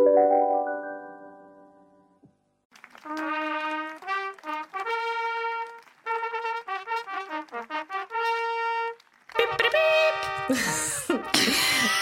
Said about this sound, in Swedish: Vad var det för liten... Fanfar. Det var mitt ett års fanfar.